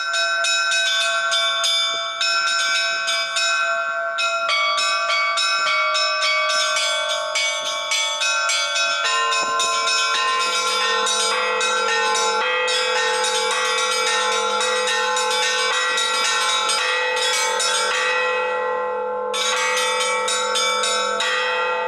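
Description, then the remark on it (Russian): Church bells peal loudly and continuously, many overlapping strikes layering into a dense, resonant ringing that hums on without pause. No voices are heard. “Колокола, вот действительно, они в русской культуре, они очеловечены, они очень, очень, колокол стонет, поет, у них судьбы точно такие же.”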